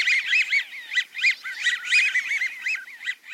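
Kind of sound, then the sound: bird, american wigeon flock calling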